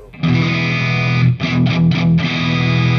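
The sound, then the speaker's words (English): A loud, overdriven electric guitar rings out on a low E chord, strummed a few times in quick succession, with reverb adding a spacious tail. No voices are present. “And then we have a drivey E.”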